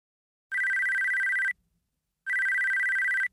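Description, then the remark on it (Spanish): A telephone lying under some documents rings twice, each ring a loud, steady electronic trill lasting about a second, separated by a short pause, with no voices present. “Está sonando mi teléfono.”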